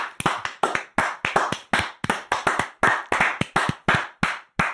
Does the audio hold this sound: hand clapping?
yes